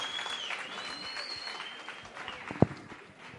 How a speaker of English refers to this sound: Once again, let's give him another warm round of applause.